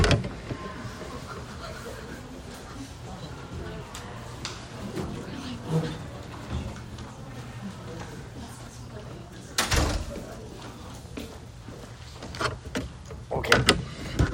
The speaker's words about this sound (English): Okay, let me close this door.